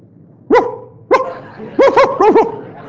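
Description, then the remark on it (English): A person imitates a dog barking, loud: two separate woofs, then a quicker run of about four barks, with no talking in between. “He wants me to bark, I'll bark, kind of thing, you know.”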